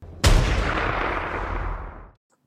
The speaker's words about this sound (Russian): И тут прозвучал второй выстрел.